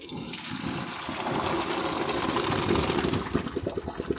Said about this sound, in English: I'm going to go ahead and drain my pasta. Looks about right.